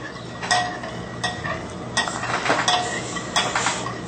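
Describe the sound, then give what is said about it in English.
A spoon stirs powder and a sugar mixture into water and juice in a pot, scraping and swishing in an uneven rhythm with a few brighter clinks against the side, over a steady low background hum. No one speaks. “So we're mixing the powder and the sugar mixture into the water and the juice.”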